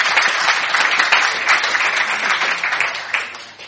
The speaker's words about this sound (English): So please, round of applause for our Q&A panel.